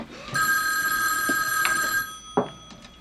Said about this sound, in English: The phone.